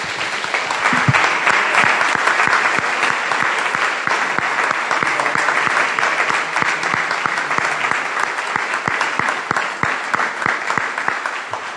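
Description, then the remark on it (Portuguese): An audience claps for Jesus at a morning church service for about twelve seconds, a dense, continuous wash of many hands with crisp individual slaps poking through, loud and sustained without any voices over it. “Vamos dar uma salva de palmas para Jesus essa manhã.”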